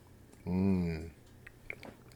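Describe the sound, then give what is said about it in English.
A sip of water and a swallow: a short voiced gulp lasting about half a second, then a few small wet mouth clicks trailing off, with no talking. “I know I could edit this out, but it doesn't seem more like we're having a conversation across the table when you get to hear me choking and coughing and drinking water like this.”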